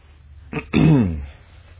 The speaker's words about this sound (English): My wife says I clear my throat when I'm nervous, but pollen has a little bit to do with that today also, so please bear with me.